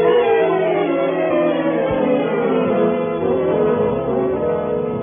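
A police squad car siren wails loudly and steadily for about five seconds, its dense, buzzing tone holding a mostly even pitch with slight wavering, and no voices over it.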